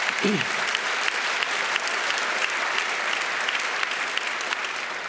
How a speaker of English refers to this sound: To me, I think that, you can clap if you want.